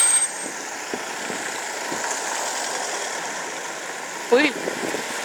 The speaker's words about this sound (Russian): Ну, сейчас попробуем перейти. Может, они меня выпустят. Ну, пошли. Пошли, пошли, бегом, бегом, бегом, бегом. Бегом. Маршрутки. Через трамвайную линию. Трамвайная чертова линия. Нет, я подожду, пока они проедут.